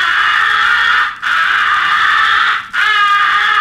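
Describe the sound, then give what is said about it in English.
A crow call blown on a hand-held game call, muffled by a finger placed into its muzzle, giving three long, harsh, raspy caws in close succession with only brief breaks between them, loud and steady with no talking. “When crows are within 80 yards and until you shoot at them, muffle your call by placing your most convenient finger into the muzzle.”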